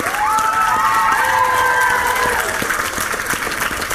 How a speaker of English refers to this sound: Thank you, Hagrid. Round of applause for Hagrid, everybody.